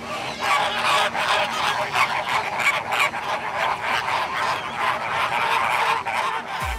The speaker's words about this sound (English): I made two trips to Bird Paradise, and the first time I heard the flamingos, I suddenly understood where the phrase bird brain comes from. On my second visit, since I knew they made this goofy gabbling sound, it's grown on me.